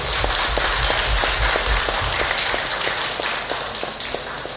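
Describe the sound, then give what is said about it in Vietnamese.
An audience of elders, aunts, uncles and adults applauds a talk on sorting household waste to protect the environment, steady dense overlapping clapping at a fairly loud level, with a low rumble underneath and no voices, tapering slightly toward the end. “Các chàng vỗ tay của quý bác, cô chú và anh chị đó cho thấy là quý vị rất hiểu, cảm thông và cam kết làm việc đó.”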